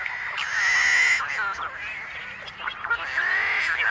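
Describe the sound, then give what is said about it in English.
A flock of tricolored blackbirds in a California marsh calls at once, harsh nasal and buzzy notes overlapping continuously in a loud, dense wall of sound with no pauses. “Are the combined voices of tricolored blackbirds in a California marsh.”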